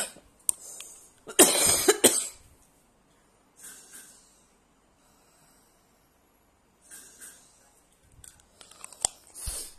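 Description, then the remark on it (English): A loud cough bursts out near the start with the microphone accidentally held near the mouth, followed by scattered quieter coughs and breathy rustles, with a few sharp clicks and another burst of noise toward the end. “That last cough, I accidentally put the mic near to my mouth as opposed to away from my mouth.”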